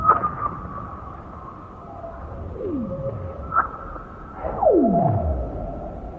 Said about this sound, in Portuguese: Jonah Hinton experimentou um dia gravar o som debaixo do chão gelado do lago Storjon, na Suécia. E o resultado é este que estamos a ouvir agora.